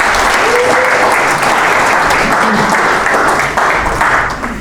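An audience bursts into sustained applause, a dense, steady wash of many hands clapping at a loud, even level for several seconds before easing slightly at the end.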